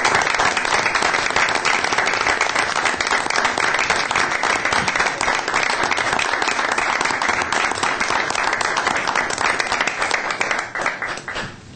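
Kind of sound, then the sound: crowd, round of applause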